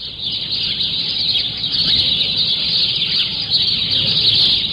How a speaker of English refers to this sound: At 7 o'clock, the birds arrive.